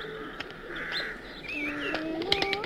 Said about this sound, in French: À mesure qu'elle s'approche, les tourterelles blanches sont de plus en plus nombreuses.